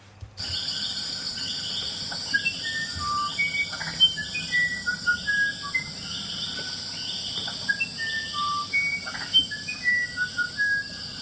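A wren sings clear, whistled notes in short, scattered phrases in a forest, over a steady high drone of insects and crickets throughout.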